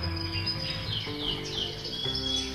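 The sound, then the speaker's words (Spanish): A flock of birds chirps continuously, with many overlapping high tweets and short swooping calls, over a steady insect-like buzz and a low background hum. No one speaks. “Al de aves, bandada.”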